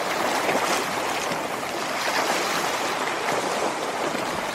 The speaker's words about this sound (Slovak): Toto je asi jasné. Je to voda, sú tu nejaké vlny. To je asi všetkým jasné.